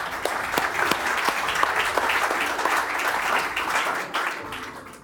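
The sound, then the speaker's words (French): An audience applauds students for their DNB exam results with steady, dense clapping for about five seconds, individual sharp claps standing out against the crowd's sustained wash of sound, fading slightly at the end. “On peut les applaudir.”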